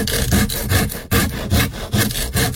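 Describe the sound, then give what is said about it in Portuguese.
A knife saws back and forth through a large, somewhat hard cuca bread in steady, rasping strokes, about five or six passes, fairly loud with no one talking. “Isso aqui é a cuca, é tamanho grande. Tem que cortar. É meio durinho, mas experimenta.”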